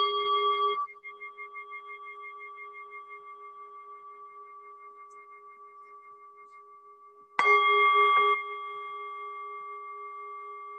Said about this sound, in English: Okay, we'll start to come back. I'll ring the bell for people, see if you can hear it.